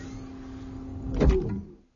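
A steady electric motor hum builds to a brief mechanical clunk as a sliding door seals shut, then the whir fades into silence. No voices.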